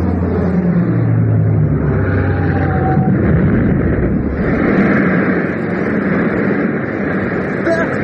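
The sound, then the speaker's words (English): The engines of an FW-200, a two-engined aircraft coming in for a bomb run, roar loudly and continuously, a dense, rumbling drone with low tones that swell and shift in pitch, unbroken from start to finish. “It's coming in for a bomb run.”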